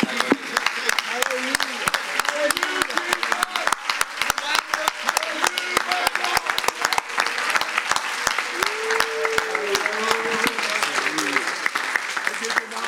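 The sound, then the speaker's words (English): An audience claps hands unto the Lord in a sustained, dense burst of applause lasting several seconds, with scattered voices and cheers rising faintly through the steady clatter. “One more time, can we clap our hands unto the Lord?”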